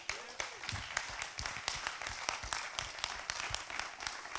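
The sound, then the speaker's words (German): A church audience applauds steadily for the church team and its leaders, a dense crowd of claps with sharp individual hits standing out, holding at a moderate level throughout with no one speaking. “Und deswegen großen Applaus für euch und eure Leiter.”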